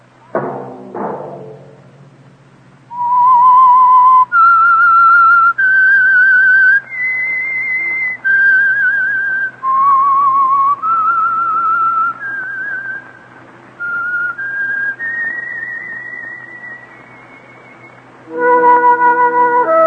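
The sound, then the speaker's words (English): A lone whistler carries the slow, haunting theme melody of the radio program The Whistler, long sustained notes that rise and fall, preceded by a couple of soft thuds and ending as a louder chord swells in. “Let that whistle be your invitation to listen to the Household Finance Corporation program, The Whistler, each week over these stations.”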